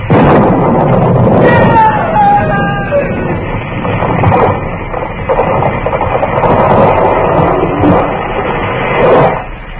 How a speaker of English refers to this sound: Mr. Dillon, what happened? It was lightning. Struck the tree.